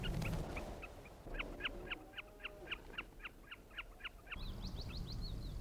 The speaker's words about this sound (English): Another willow warbler with the snipe in the background.